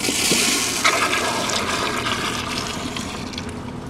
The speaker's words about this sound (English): We saturate the sponges and then dump them in the toilet here. I believe there's 60 sponges in here. They're very small sponges. Very small. But it's still quite a bit of volume of material. And then we would flush the toilet.